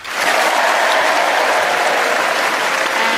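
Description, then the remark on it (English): A theatre audience breaks into sustained, steady applause, a dense wash of many hands clapping at full volume that rises quickly and holds without pause for several seconds, welcoming the four panelists of the show Just a Minute at the Theatre Royal. “Please welcome all four of them.”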